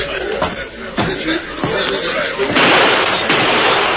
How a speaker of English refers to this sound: Did you see that? Deke shot at the mess, man. Shot through the window.